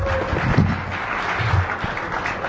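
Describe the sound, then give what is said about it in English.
An audience claps steadily in a dense, crackling wash of applause that holds at an even loudness for a couple of seconds, with a few low murmurs underneath. “Yeah, you applaud now.”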